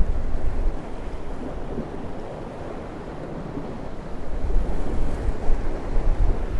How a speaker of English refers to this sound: So instead I'm just sitting on this big rock. Looking at the city. Listening to the waves.